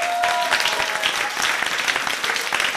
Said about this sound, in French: On peut les applaudir encore une fois.